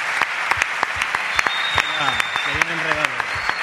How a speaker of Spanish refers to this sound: Un aplauso noches. Para Iván Alejo, jugador del Cádiz.